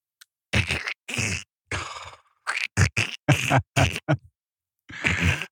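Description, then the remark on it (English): A voice imitates pages of a sermon being turned, producing about nine loud, raspy, sputtering mouth bursts in an uneven rhythm with short pauses between them. “And this is what happens when I'm turning the pages.”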